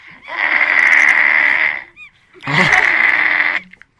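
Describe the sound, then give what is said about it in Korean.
A voice mimics a call meant to make seagulls rush to a boat: two long, loud, nasal, high-pitched wails, each about a second and a half, with a brief pause and small chirp between them. “소리가 무슨 주파수가 기러기, 아니, 갈매기가 막, 네. 막, 배로 달려오는 그런 주파수예요.”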